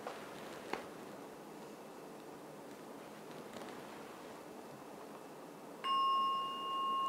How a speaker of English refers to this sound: So I'm now going to ring the gong 3 times. The gong is not the same as I use in Nolamara temple. This is more dingy. So here it comes. 3 strokes of the gong to end today's meditation.